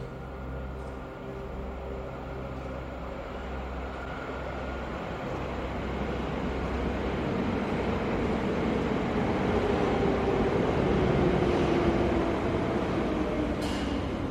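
The 1040 train arrives with a deep, steady rumble that gradually swells louder, a low drawn-out tone sliding downward as it draws near. No one speaks.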